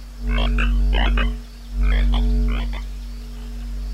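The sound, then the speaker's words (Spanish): A frog croaks in two quick bursts of raspy, pulsing calls, clear, over a steady low hum with no talking, in a forest in the radioactive Chernobyl exclusion zone around Pripyat. “¿Estoy yo loco o ha pasado una rana que brilla?”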